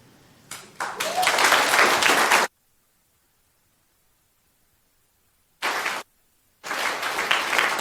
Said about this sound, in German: Bleibt noch ganz kurz da. Das ist euer Applaus, da dürft ihr stehen bleiben.